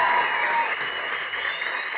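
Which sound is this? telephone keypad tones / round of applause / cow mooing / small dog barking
round of applause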